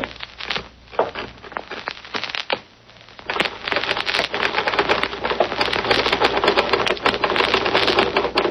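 Typewriter keys clatter up close, starting with a few scattered strikes and then settling into a fast, steady burst of dense clacking that continues to the end, with no one speaking.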